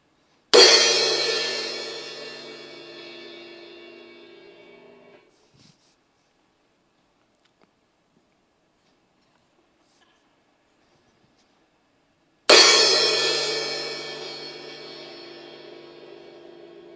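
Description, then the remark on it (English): A gong or cymbal is struck twice, about twelve seconds apart. Each loud crash rings out with a rich, shimmering tone that slowly fades over several seconds, with silence between the strikes. “He says, if I speak in the tongues of men or of angels, but do not have love, I am only a resounding gong or a clanging cymbal.”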